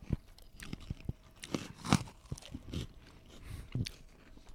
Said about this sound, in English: It smells exactly like some kind of a... It smells like this the cinnamon oatmeal that I get. I get like an instant oatmeal. it's got a good crunch. Wow. You guys heard that crunch. If you like a crunch, you should be sold by now.